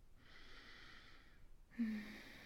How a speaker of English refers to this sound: Just lie here with me. Lay your head on my chest, baby. Let my breathing rock you to sleep.